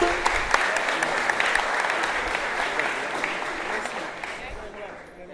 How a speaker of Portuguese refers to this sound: Uma salva de palmas